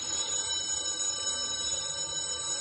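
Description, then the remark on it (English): A telephone rings continuously in the morning, a steady high-pitched electronic bell tone held through the whole moment at moderate volume, with no voices and a faint low rumble beneath. “The sun was shining just as if it were any other day, and the telephone was ringing.”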